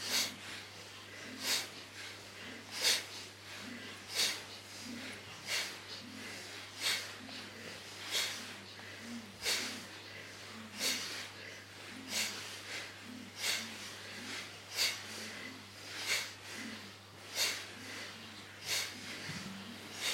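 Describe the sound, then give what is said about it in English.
Forceful, rhythmic nasal breaths repeat steadily, each sharp exhale snorting through the nose at roughly one-second intervals, fairly loud, with a faint low hum underneath and no talking. A person doing a powerful breathing exercise, moving with the breath while looking over the shoulder. “A powerful breathing.”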